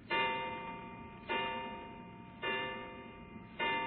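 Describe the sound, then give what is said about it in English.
A clock strikes the hour with four evenly spaced, ringing chimes about a second apart, each tone sustaining and fading into the next. It is clear, with no voices. “11 o'clock.”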